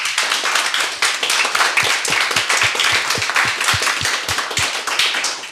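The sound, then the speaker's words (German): An audience applauds steadily for Steffen Seibert, a dense wash of many hands clapping with a few sharper individual claps standing out, sustained and fairly loud throughout with no one speaking. “Nur um sicher zu gehen, auch bitte nochmal Applaus für Steffen Seibert.”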